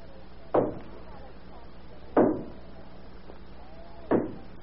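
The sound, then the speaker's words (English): Three heavy, dull bangs on the door of a family's home in the early hours of the morning, spaced roughly two seconds apart, each a booming thud with a short tail, over a steady low hiss. “Who do you suppose is banging on the door at this hour of the morning?”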